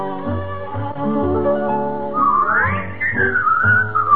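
A bright whistled melody rises and glides over a full musical backing of sustained harmonies, the whistling growing prominent and sliding between notes in the second half.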